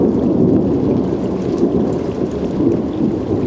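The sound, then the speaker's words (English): An unseasonable December thunderstorm passing over Long Island Sound in New England: steady, heavy rain hisses throughout while deep, rolling thunder rumbles beneath it. The sound is dense and continuous, with no voices. “Producer Mark Seth Lender recorded this out-of-season thunderstorm as it passed over Long Island Sound.”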